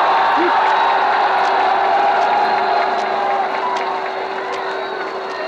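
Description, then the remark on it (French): A large crowd of the people of Paris on the Champs-Élysées cheers and applauds continuously in bright sunshine, a dense, steady roar of clapping and shouting voices that stays loud throughout, with occasional whoops rising above the din. “Je crois que mieux des paroles, l'enthousiasme de la foule vous donnera une idée exacte de ce que toujours dit l'enthousiasme du peuple de Paris.”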